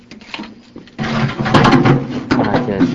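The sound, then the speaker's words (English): The metal ash drawer located down below on a corn stove slides along its track with a grinding, rattling scrape. The scrape starts abruptly and continues for a couple of seconds, fairly loud, with a faint voice murmuring beforehand. The stove is on a fireplace shop's showroom floor. “They actually located down below an ash drawer that actually”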